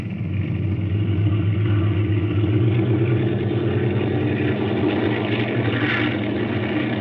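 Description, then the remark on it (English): Propeller aircraft engines roar in a steady, loud drone with a deep throbbing hum during takeoff from runway 28 with the wind west at 15 miles, holding an even level throughout with no voices. “Well, Robbie, looks like the motors are going to run okay.”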